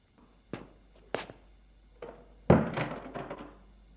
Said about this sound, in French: Il entre, Maxime ferme la porte.